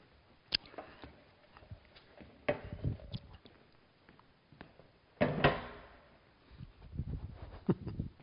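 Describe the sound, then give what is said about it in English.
Clicks and clanks of a folding chair, used as a theater prop, being opened and set in place, with several sharp knocks spread out and a louder rattling clatter partway through; no one speaks. “Inside each of us is a throne chair, which that humble folding chair symbolizes.”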